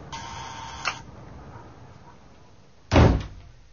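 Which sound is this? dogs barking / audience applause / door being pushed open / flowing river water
door being pushed open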